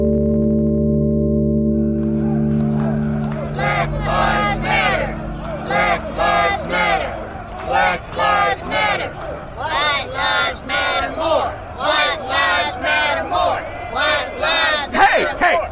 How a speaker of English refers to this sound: What are you people shouting for?